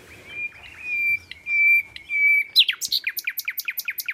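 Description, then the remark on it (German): Several nightingales sing in hedges in the Kühkopf-Knoblochsaue nature reserve in the Rhine floodplain; one male in focus gives a sustained whistled note giving way to a fast, rhythmic series of sharp repeated chirps, with other nightingales and birds faintly audible in the background. No one speaks. “Da gibt es sehr viele Hecken und wir hören jetzt hier mehrere Nachtigallen, eine, die so im Fokus ist”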